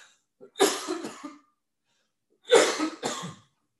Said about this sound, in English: Excuse me, I had to cough.